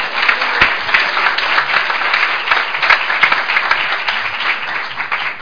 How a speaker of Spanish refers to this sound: La recibimos también con un fuerte aplauso.